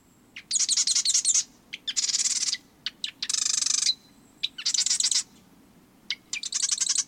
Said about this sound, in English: Then, sitting high atop a perch in the marsh, he sings his sewing machine-like song, inviting a female to select a nest in his territory.